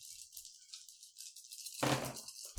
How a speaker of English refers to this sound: So you're rolling one Naginata dice.